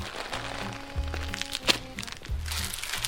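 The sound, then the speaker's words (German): Five plastic bags of gummy bears crinkle and rustle steadily, with a few louder crackling handfuls and soft thumps as the bags are shuffled around. No one speaks. “Du kriegst jetzt 5 Tüten Gummibärchen dazu.”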